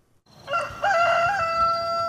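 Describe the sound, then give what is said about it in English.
A rooster lets out one long, loud crow while it is still dark before dawn on a farm, with chickens roosting up in a pecan tree; its strained, harmonic call steps up in pitch and holds, with no voices and only faint outdoor ambience underneath. “We got chickens all up in the pecan tree here right now.”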